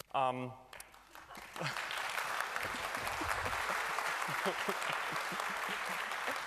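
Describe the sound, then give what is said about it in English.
A brief voice gives way to a crowd's sustained applause for the speaker at a security research talk on memory corruption attacks: dense, steady clapping that swells within a second or two and keeps going at an even, loud level until the end. “Wait with the applause for until after the talk.”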